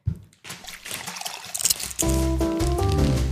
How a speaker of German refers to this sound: Okay, die Cashews. Okay, sollen wir übergehen? Ja, Cashews, pass auf, es raschelt.